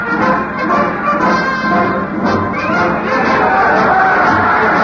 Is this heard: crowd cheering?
yes